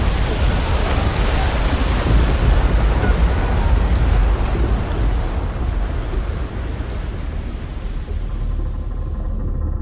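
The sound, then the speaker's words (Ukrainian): A light gust of wind sweeps over open water with a soft surf-like hiss, swelling early and gradually easing toward the end. No voices are heard. “Легкий порив вітру, і далі все сталося дуже швидко.”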